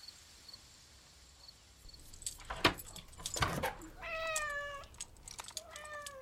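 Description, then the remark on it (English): A cat, Puss, gives two drawn-out, high-pitched meows, the first longer and wavering. A couple of sharp clunks come before them over a soft steady hiss, with no talking. “Hello, Puss. Did you miss me?”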